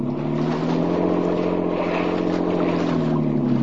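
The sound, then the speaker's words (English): A motorboat engine roars steadily, its low droning pitch wavering slightly as the boat races across the water to cut in ahead of another boat heading for shore, with a constant wash of spray and hiss above the motor. “Look, he's rung for shore. Cut in ahead.”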